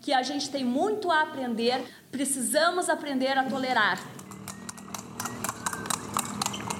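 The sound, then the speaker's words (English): Voices talk loudly for a few seconds, then a horse's hooves clip-clop steadily on hard ground in a quick, even rhythm as a horse and buggy brings a couple to their wedding. “On the day of the wedding, couples arrive by car, on foot, and in horse and buggy.”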